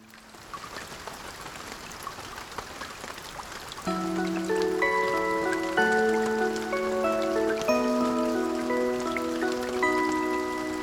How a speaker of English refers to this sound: It rained heavily the next day.